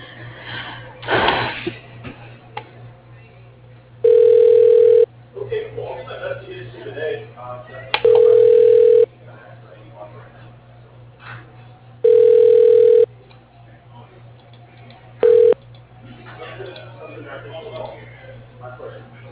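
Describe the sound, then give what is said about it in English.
A telephone extension rings while on hold after a transfer from an automated company phone directory: four loud, steady ringback tones, each about a second long, repeat at even intervals, the last one cut short, over a low hum and line noise. “To hear the next, please hold while I try that extension.”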